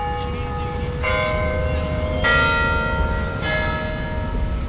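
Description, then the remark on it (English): A church bell in a campus bell tower tolls three times at an even, unhurried pace, each strike ringing out and lingering over a steady low rumble of outdoor background noise. “The bell tower and chapel are at the heart of this campus, where black women are finally winning some respect.”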